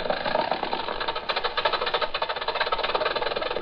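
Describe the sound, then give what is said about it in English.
An old-fashioned car engine, from a car that was once the newest on the road, runs steadily, its rapid rattling, knocking beat pulsing evenly throughout without any voices. “Once upon a time, this was the newest car on the road.”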